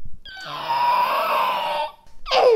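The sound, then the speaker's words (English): A child's voice imitates a raptor call: a long, high, raspy screech held for over a second, then a short shrill cry that swoops downward in pitch. “All right, now let's hear a raptor.”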